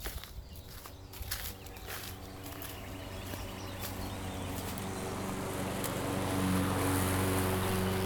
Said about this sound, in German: An einem Tag, als ich in Teichnähe unterwegs bin, höre ich von weitem Rasenmäher, die um die Holzhütte herummähen.